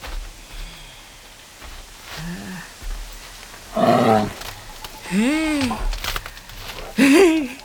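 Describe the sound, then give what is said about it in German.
A bear growls and roars in a forest in a series of drawn-out, groaning calls, starting faint and low and building to several loud bursts with short pauses between them. “Bist du ein Bär? Willst du ins Camp? Ein Bär.”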